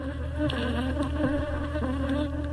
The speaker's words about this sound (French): C'est le bruit qui vous accueille lorsque vous vous approchez des essaims d'abeilles d'Awanga Timothée.